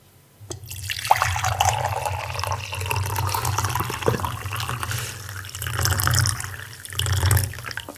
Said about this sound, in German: Der Herr Stett gießt Tee nach. Achtung, es blubbert.